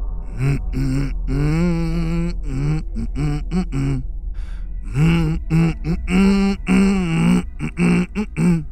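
A man grunts and hums a slow, wavering melody in a low voice, with strained throaty bursts between sustained sung notes and no clear words.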